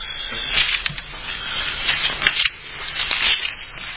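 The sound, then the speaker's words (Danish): Thin Bible pages rustle and flip in quick, irregular bursts as someone turns to 2 Corinthians chapter 7, a dry papery swishing with no voices. “Prøv at bladre med mig om til 2. Korintherbrev kapitel 7. Eller bladre tilbage.”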